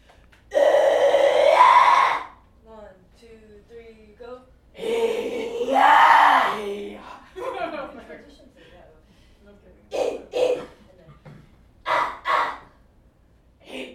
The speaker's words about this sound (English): a rock and metal musician, music instructor, and session vocalist with a very unique skill set of extreme vocals, aka metal screams.